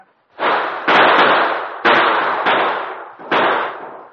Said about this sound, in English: lay on the ground groaning as his companions fired round after round at the sergeant and Travis whenever they exposed themselves. With plenty of ammunition, the sergeant's strategy was to make the outlaws waste theirs, and the plan succeeded.